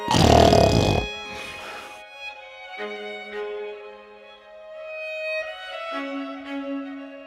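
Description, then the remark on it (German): Two loud, rasping snores, imitated by a voice to portray a sleeping dog, come in quick succession at the start, then give way to a few sustained, quieter instrumental notes from the middle movement of a composition. “Aber ich könnte mir eher vorstellen, dass der Hund schnarcht.”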